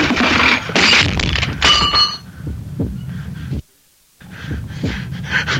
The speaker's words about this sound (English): Why are you pulling the clock away from that? Hey, look out! It's falling!